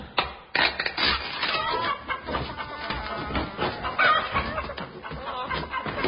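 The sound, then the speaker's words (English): Several voices of people disguised as chickens while opening crates at an oasis imitate chickens, clucking and squawking loudly over one another in a dense, continuous flurry, with bits of laughter mixed in. “Arrival at the oasis, we began to open the crates, having first disguised ourselves as chickens.”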